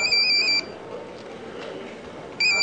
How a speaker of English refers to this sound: Sornalingan's two cell phones ring almost constantly.